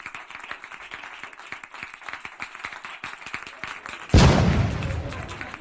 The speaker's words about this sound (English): That damn cannon will make us all deaf.